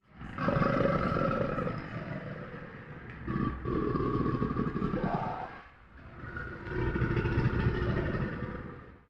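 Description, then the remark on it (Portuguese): A tiger lets out two long, loud, rumbling roars, the first drawn out for several seconds before a brief pause and a second growling roar. “Quando volta a olhar, um tigre está sentado num toco de árvore.”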